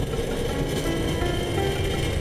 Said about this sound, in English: Well, that, man, that sounds like a massive door. What is it? With some kind of compartment, some big chamber.